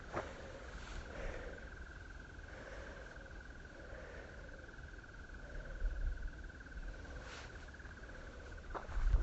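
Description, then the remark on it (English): A bird's thin, steady high-pitched trill runs through the whole recording, with softer warbling notes repeating about once a second beneath it. No one speaks. “A bit of trilling going on in the background. I can't identify the bird.”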